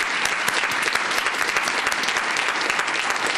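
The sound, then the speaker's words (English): Steady audience applause at an NAFB convention for the Secretary of Agriculture fills the whole stretch, a dense, even clatter of many hands clapping at once, fairly loud, with no talking over it. “Let's give Secretary of Agriculture from the NAFB a nice round of applause for being with us today.”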